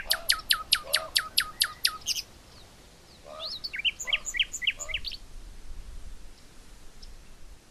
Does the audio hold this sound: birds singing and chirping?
yes